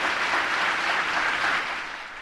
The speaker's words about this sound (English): You heard there lots of cheering and applause for Ahmadinejad, and this came at various points, including his complaint that you were too discourteous to him.